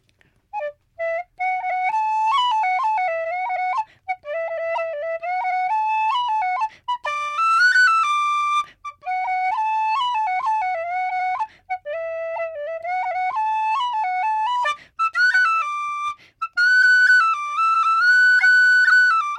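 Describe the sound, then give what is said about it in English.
A penny whistle plays a lively Irish jig alone, a self-composed tune called Chicken's Jig, bright high notes skipping up and down in quick bouncing phrases with brief breath pauses between runs. “And are you composing them on the penny whistle or the fiddle? On the penny whistle?”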